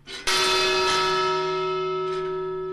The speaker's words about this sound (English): This bell sounded whenever a new ship of Chinese immigrants was approaching Angel Island in the early 1900s.